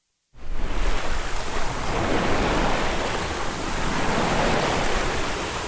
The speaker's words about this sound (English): There are folks who, like me, appreciate the natural beauty around us, or the sounds of the sea that you hear when you turn off the engine.